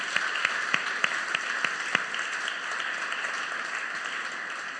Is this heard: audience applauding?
yes